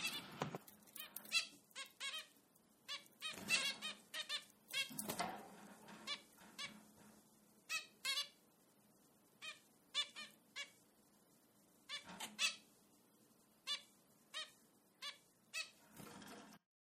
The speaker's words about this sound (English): If you do decide to stick around, we hope that you enjoy the sounds of the finches in the background. And I'll include a little bit of them right before the episode.